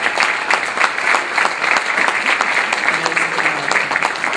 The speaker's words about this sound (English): So we appreciate you being here. Amen. Let's give our visitors a big round of applause.